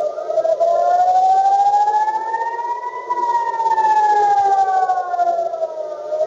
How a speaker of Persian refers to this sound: در زمان حمله مسیر چندین پرواز تغییر کرد و صدای آژیر خطر در مناطق مرکزی اسرائیل، تل‌آویو و بخشی از کرانه باختری به صدا درآمد.